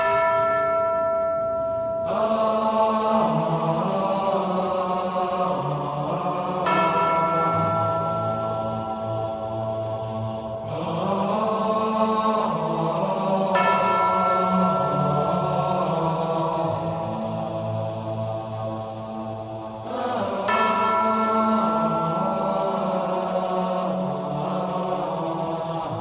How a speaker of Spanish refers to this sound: Ya están sonando las campanas de tu sección.